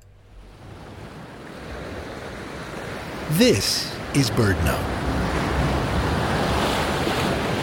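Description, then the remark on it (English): A steady, loud roar of a turbulent tidal surge flowing like a river off a rocky headland at Deception Pass, at the north end of Whidbey Island, fills the whole recording, with wind noise mixed in. A voice speaks briefly midway over the rushing water. “Stand on a rocky headland above the turbulence of the tidal surge flowing like a river.”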